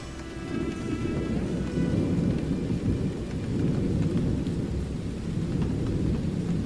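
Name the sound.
heavy rain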